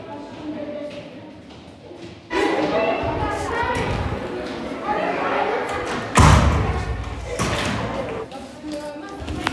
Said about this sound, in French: Pendant la montée en cours, on entend la sonnerie. Les cris et les bousculades, les rires, les portes qui claquent.